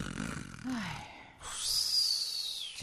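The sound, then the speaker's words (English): A man, the character John Bickerson, snores: a low, rattling snort on the inhale, then a long, airy whistling exhale, with no talking. “Stop what? That snoring.”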